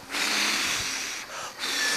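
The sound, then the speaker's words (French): Voices imitate blowing wind with a breathy, airy whoosh held for about two seconds, fairly loud and steady, briefly dipping twice before swelling again. No words are spoken. “Vous faites le vent avec moi?”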